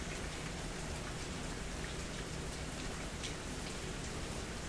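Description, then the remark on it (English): Steady rain falls outside, a dense, even hiss of drops with faint patters spread across the full length, no voices and no thunder, just a constant soft wash of rainfall. “But the sounds of rain, it's very soothing.”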